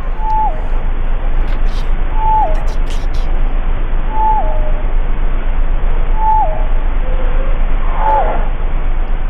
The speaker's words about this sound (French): Alors, oui, c'est vocalise de baleine bleue. On voit c'est pas clic, parce que c'est... Non, c'est pas clic, c'est les vocalises.